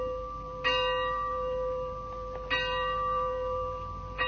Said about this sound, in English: The bell invites me. Hear it not, Duncan, for it is a knell